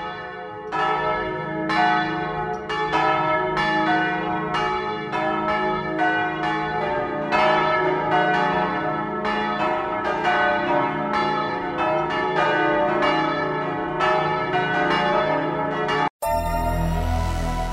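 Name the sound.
church bells ringing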